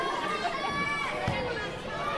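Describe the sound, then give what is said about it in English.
Kids playing road hockey on the street: children's voices chatter and call out steadily, with a single dull knock partway through, like a stick striking a ball. “Oh, the kid's playing road hockey.”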